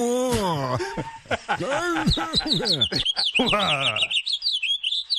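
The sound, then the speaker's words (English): A male Guyanese finch sings a rapid run of high, bright chirps and trills, clear, emerging at the end after a stretch of wavering, moaning human vocal sounds. “In what parks are Guyanese finches having singing competitions?”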